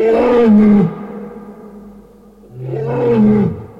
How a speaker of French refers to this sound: Grand Dieu ! Un lion !